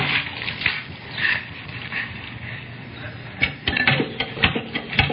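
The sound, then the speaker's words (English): A hand water pump is worked, its handle clanking and squeaking in quick repeated strokes while water gushes and splashes steadily underneath. “Pump.”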